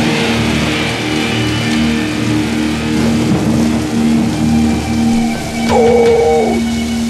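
Steady, hissing rain pours continuously with no one speaking, a faint low hum underneath and a brief tonal whine rising near the end.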